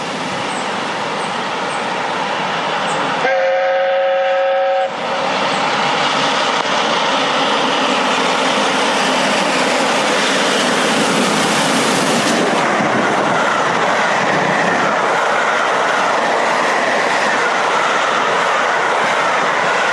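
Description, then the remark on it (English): A steam locomotive thunders down the rails, loud, with a steady roaring rumble throughout and a short whistle blast early on. No one speaks. “But I want you to watch a short video clip of a steam locomotive, not quite this size, but a steam locomotive crushing it down the rails.”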